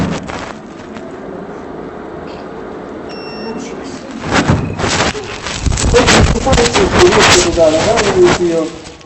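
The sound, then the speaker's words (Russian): A heavy, massive fireproof door over a metre wide is shoved along, grinding and clunking, growing louder and rougher in the second half while voices murmur in the background. “И вот сюда-сюда идет дверь, и она тяжеленькая. То есть мы такие массивные, противопожарные двери”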